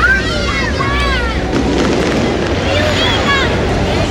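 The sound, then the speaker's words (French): Fireworks go off outdoors in the Chacao and Altamira district of eastern Caracas, Venezuela, in a steady, noisy barrage, with rising and falling whistles arcing over a dense rumble of bangs and crackle, and a murmur of voices mixed in. “Ah, les feux d'artifice commencent.”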